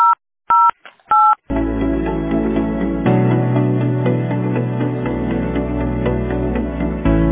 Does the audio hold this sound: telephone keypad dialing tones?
yes